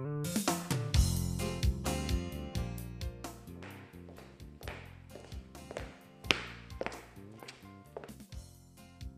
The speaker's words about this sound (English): I hear someone walking.